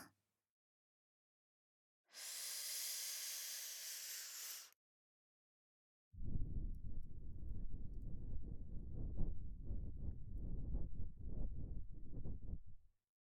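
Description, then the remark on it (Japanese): Breath blown into the ear: first a steady, airy hiss lasting a few seconds, then after a short pause a longer, deep, rumbling blow that flutters and buffets. No one speaks. “人間はこのように耳に息を注がれるのが好きとデータにあります。”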